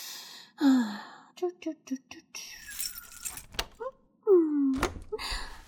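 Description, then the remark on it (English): Keys jangle, followed by a metallic thunk of a lock turning and the first door on the right, the door of a home, being unlocked and opened, with a couple of breathy sighs and small vocal sounds around it. “Scoot over so I can unlock the door.”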